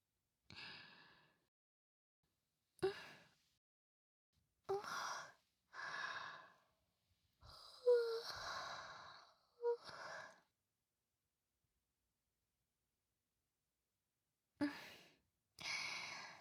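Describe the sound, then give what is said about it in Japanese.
A string of big yawns, one after another: breathy, drawn-out exhalations separated by short pauses and a longer quiet gap near the end, with no talking. “やだ、大きなあくび。で、あなたにも映っちゃったわね。”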